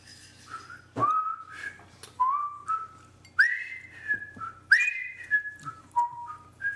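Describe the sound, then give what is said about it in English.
A person whistles a meandering tune, with clear tonal notes gliding and sliding across several short phrases, accompanied by faint creaks from a squeaky chair and a low hum underneath. “Well, I'm going to have another sip while you whistle.”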